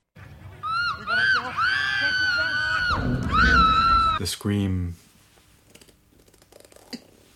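A sustained, piercing human scream wavers in pitch for several seconds, breaks briefly, then ends in a lower, strained cry before fading into near silence.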